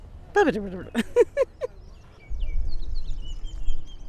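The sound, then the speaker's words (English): A human voice imitates a Baltimore oriole song with about five quick, pitch-bending whistled syllables, followed by faint high bird chirps over a low rumble. “That's the Balch Memorial song.”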